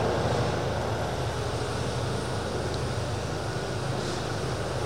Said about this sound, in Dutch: We wachten heel eventjes. Ik wacht nog heel eventjes tot de motor wat naar beneden is. Even inparkeren.